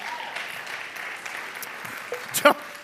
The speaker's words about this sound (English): Don't clap at that. Don't encourage me.